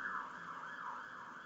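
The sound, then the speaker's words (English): A police car siren wails in a steady rising-and-falling cycle at a fairly low, even level with no talking. “These guys, you never see them on the streets, you just hear them now. Always in their cars.”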